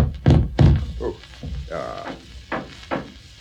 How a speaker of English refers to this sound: No, start on the knocking,